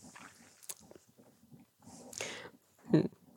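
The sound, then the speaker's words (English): A dog licking, with quick wet smacking and slurping sounds in an irregular rhythm, ending in a louder slurp near the finish. “Sorry, now the dog is licking.”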